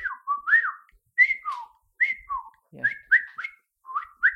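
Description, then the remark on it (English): A person whistles an imitation of a song thrush: short, clear, bird-like phrases that swoop up and down, some repeated in pairs, delivered in bursts with brief pauses and no talking. “So with a song thrush, you might get something like...”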